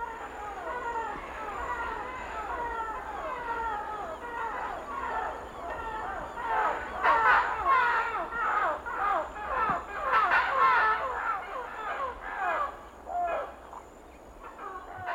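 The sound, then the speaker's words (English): A flock of parrots squawks as it flies overhead one early morning in the Amazon rainforest, dense overlapping harsh calls that swell louder midway and then thin out, over a steady low background hum. “At this particular point in the tape, Tropical Jungle, you hear a group of parrots flying overhead.”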